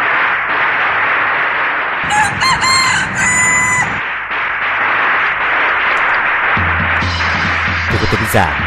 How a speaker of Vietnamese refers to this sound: Con gà Đinh Dậu gáy thật lớn, đem đến cho chúng ta biết bao nhiêu niềm tin, biết bao nhiêu niềm hy vọng và biết bao nhiêu sự may mắn cho năm mới.